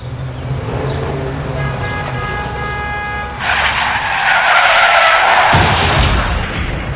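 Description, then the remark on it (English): A car engine rumbles, then tires let out a high, whining screech before a loud crunching crash bursts in, followed by a sustained roar of debris and a low rumble near the end. “They take the dents out of accidents.”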